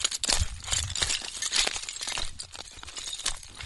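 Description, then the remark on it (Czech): Loose slate pieces on a slate spoil heap clatter and clink against each other in a dense, continuous run of sharp, brittle knocks, steady throughout. “Toto je zvuk břidlicové haldy.”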